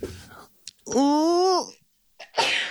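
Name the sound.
sneeze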